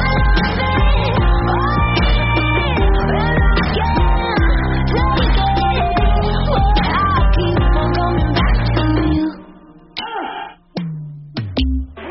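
A pop song plays loudly with sung vocals over a full, dense backing, then the arrangement drops away near the end, leaving a few sparse, punchy hits.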